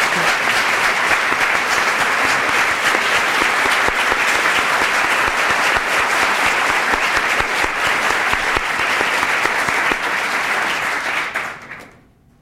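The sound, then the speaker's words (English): A lecture audience applauds steadily to recognize Mr. Moss's generosity in bringing the lecture series, a dense, loud wash of many hands clapping that holds for about eleven seconds before fading out quickly at the end. “So would you applaud with me tonight?”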